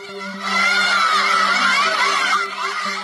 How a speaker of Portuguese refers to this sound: Meninas estudantes tiraram o véu e expulsaram uma autoridade do governo de uma escola perto da capital Teherã. Elas jogam objetos contra ele e gritam: "Você deveria ter vergonha."